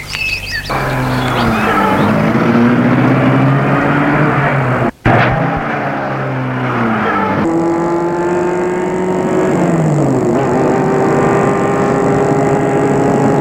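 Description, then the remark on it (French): A car engine turns over as the driver starts the car and pulls away, the engine note climbing and shifting through gears, loud with a steady rumble and a brief dropout midway. “prend la place du conducteur et met la voiture en route.”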